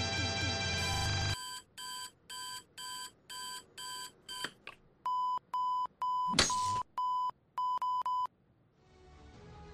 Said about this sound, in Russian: Да хватит пищать, блять. Дайте поспать, ебаный в рот.